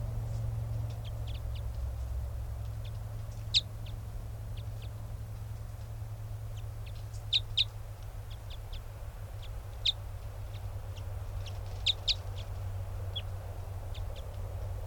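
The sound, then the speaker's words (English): A wild bird gives short, high-pitched chirps at irregular intervals, a few sharper and louder than the rest, over a steady low rumble with no one speaking. “That was a wild bird.”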